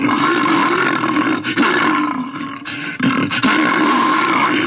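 A loud, sustained bear roar rumbles continuously for several seconds, full-bodied, with brief dips in intensity before it surges again.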